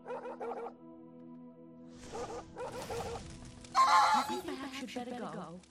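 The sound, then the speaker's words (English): A puppy barks in a few sharp bursts, then lets out high, wavering whimpers and whines, moderately loud over a low steady background hum. “That is a bad puppy.”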